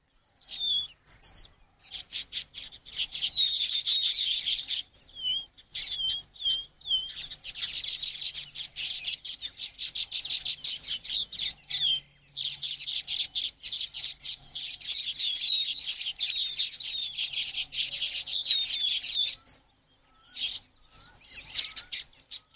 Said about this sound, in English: Today's bird call is the red-billed quelea.